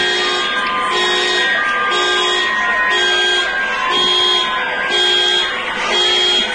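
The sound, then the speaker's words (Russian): Several car horns honk together in loud, overlapping blasts, some beeping in a steady repeating rhythm while others hold longer, filling the whole stretch without a break. The cars are honking in Belarus while security forces knock off their mirrors with batons. “А то, что машины сигналили, это можно увидеть и услышать на многих видео.”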